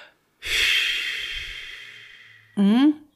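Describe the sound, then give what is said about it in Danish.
A long, breathy exhale of about two seconds, done as a relaxation breathing exercise, with the lips loosely fluttering in a low rumble as the breath fades, then a brief voiced sound right after. “Så skal man nærmest blaffre lidt med læberne.”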